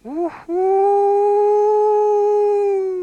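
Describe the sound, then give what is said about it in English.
A person imitates a wolf howl: a brief rising cry, a short break, then one long, steady, sustained howl held for several seconds, loud with no other sounds. “So this young man was wishing to become a wolf, so he went out from the cabin as became a wolf.”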